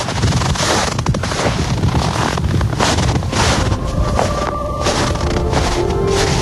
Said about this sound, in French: On est en Scanie, puisque ce paysan est dans son tracteur et qu'il laboure son champ. Évidemment qu'on est en Scanie, tout près du Danemark, qu'on est tout près.